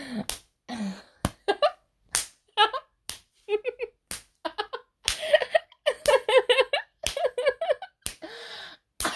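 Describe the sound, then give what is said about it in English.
A series of sharp, loud hand slaps on a bare chest, irregularly spaced, with breathy gasps and short vocal sounds between them. “Oh, that chest is getting so red with all those slaps.”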